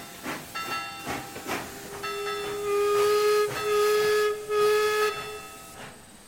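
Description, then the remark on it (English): A steam train arrives at a station at 3 o'clock, its whistle blowing a long, loud, sustained chord over rhythmic bursts of hissing steam and chuffing, with no voices. “The 3 o'clock train is arriving at the nearby station.”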